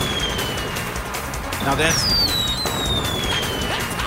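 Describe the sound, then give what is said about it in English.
Fireworks sound effect: high whistling rockets glide downward in pitch while a crackling burst pops midway, all over a dense, steady rumble of background noise for a few seconds. “Stop it with the fireworks. Now the fireworks is obviously too much.”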